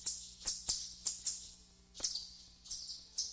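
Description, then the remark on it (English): A kingbird calls with a series of sharp, high, buzzy chirps, about eight short notes in an irregular stuttering rhythm, clear against a quiet background. “And here's the kingbird.”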